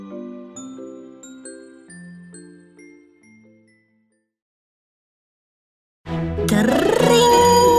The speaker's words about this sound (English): Went my clamshell alarm clock.